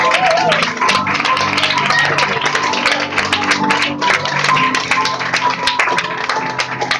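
A crowd applauds steadily for about seven seconds, dense overlapping claps forming a loud, even wash with sharper individual claps popping out, over a faint low hum.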